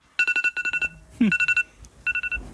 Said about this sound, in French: parce que vous ne vouliez pas rater le dernier grand rendez-vous d'une nuit au Pic du Midi, eh bien vous avez allumé votre réveil très tôt.